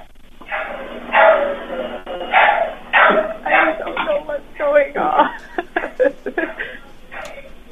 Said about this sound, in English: Are you near the dog yet, ma'am?